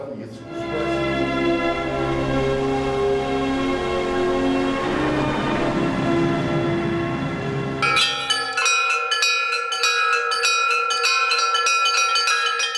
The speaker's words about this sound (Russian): Силами осужденных на территории исправительной колонии номер 5 города Кемерово построили звонницу из 8 колоколов.